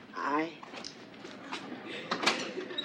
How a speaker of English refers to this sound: All right, go over to the door and open it.